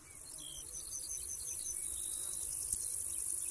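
A mountain bush-cricket sings a soft, raspy chirping song, a dry buzzing trill that runs steadily without pause, with faint higher insect calls in the background.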